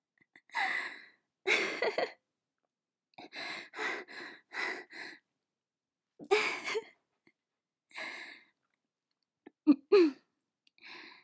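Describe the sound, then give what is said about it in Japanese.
A fairly loud series of about ten sharp hiccups comes in irregular bursts, some pairs quick together and others separated by pauses, with no talking around them. “しゃっくりが。”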